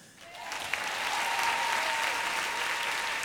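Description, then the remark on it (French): A standing audience breaks into applause to thank the technical crew, a dense, steady wash of many hands clapping that swells quickly and holds at an even, fairly loud level without letting up. “Et de vous demander de demeurer debout et de vous joindre à moi, à nous, pour applaudir, remercier et souligner le travail impeccable de toute l'équipe technique.”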